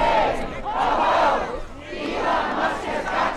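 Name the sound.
protest crowd chanting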